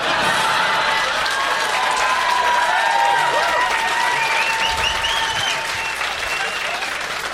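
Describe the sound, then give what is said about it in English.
Sustained standing applause from an audience, dense and steady for several seconds, with a few cheers and whoops rising over the clapping. “Oh, is that what the standing applause was for, bitch?”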